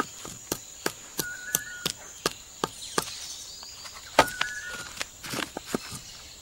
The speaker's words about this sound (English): They are after clams. But capuchins are quite small and don't have the brawn to open such shellfish. But they do have the brain. And they've devised an ingenious way to solve the problem. They hammer the clams.